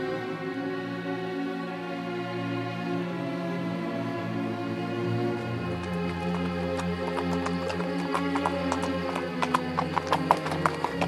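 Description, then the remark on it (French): A horse's hooves clip-clop at an easy walking pace as it is ridden through Haute-Provence, crisp, entering about halfway through and growing louder over a steady, sustained musical drone. “Le cheval marchait gaiement.”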